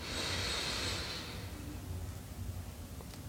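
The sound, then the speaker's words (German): A single slow, deep breath drawn in through the nose, soft, lasting about a second before fading into near silence; the third deep breath of a guided relaxation exercise. No one speaks. “Wir nehmen den dritten tiefen Atemzug und atmen ein.”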